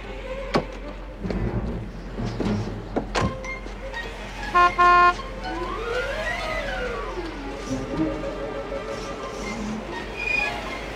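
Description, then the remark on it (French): Two short, loud car horn honks cut through busy street noise, followed by a rising and falling whining tone and scattered clatter in the background. “C'est mon klaxon et y a que moi qui ai le droit de m'en servir.”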